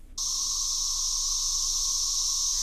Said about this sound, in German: Das sind Zikaden, und zwar richtig viele Zikaden. Sie haben viele Jahre im Boden gelebt und kommen jetzt bald alle auf einmal nach oben.